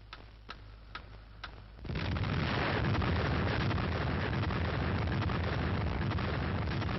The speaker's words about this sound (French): Vous vivez dans le blockhouse de la mise à feu, la minute solennelle de la première explosion atomique française.